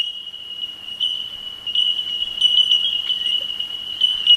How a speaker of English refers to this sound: I don't know how much you know about bell miners, but that's one of them there, or a few of them.